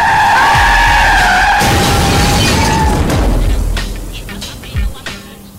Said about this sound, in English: The red car spins, completely blocking the bridge ahead. Superboy is unable to stop.